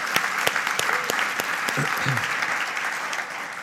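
An audience at a special event applauds a guest, clapping steadily in a dense wash of applause, with a few sharper individual claps standing out and brief murmurs of voices beneath, holding at an even level throughout.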